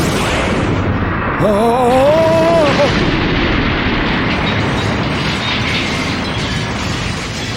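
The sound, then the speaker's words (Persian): A loud, continuous barrage of cannon fire and explosions rumbles throughout, with a brief wavering whistle-like tone rising over the blasts early on, as Buggy's special bombs are fired to blow up a whole village. “میخوام تمام دهکده منفجر بشه.”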